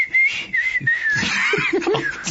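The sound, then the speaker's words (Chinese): A person whistles a short melodic tune imitating a secret whistle signal in a told story, the notes wavering up and down, clear, with a little background noise underneath. “等到徐晃把这个口哨声吹完啊，只听见隔壁第八根电线杆旁边也有一个戴着墨镜的人在吹同样的口哨声。”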